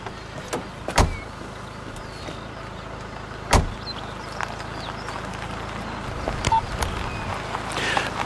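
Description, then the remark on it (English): Two solid thumps of a car door shutting, a few seconds apart, over a steady low engine rumble as the Prime Minister's car idles and pulls away, with no talking. “The car's ready, Prime Minister.”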